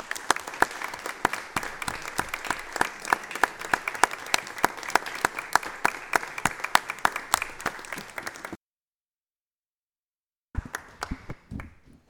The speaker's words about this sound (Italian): E in virtù di questo impegno, insomma, ritengo che il modo più giusto per salutarli e per omaggiarli non sia un classico minuto di silenzio, ma sia invece un applauso, se me lo consentite.